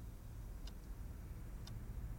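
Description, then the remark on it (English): A clock in a family home ticks twice, one second apart, with crisp, faint clicks over a steady low background rumble. No one speaks. “The clocks in the family home indicate it's 4:09.”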